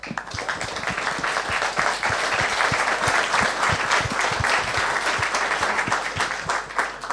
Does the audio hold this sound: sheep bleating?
no